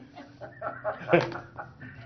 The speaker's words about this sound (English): Hey, what kind of dog do you have? Oh, you heard him? Oh, yeah.